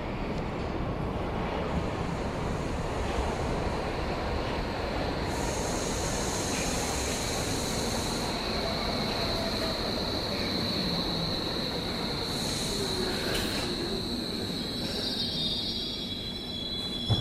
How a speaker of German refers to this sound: Der Sound der Schienen zuerst säuselnd. Ich richte das Mikrofon auf die Gleise. Totale oder Nahaufnahme, auch beim Ton macht das einen großen Unterschied.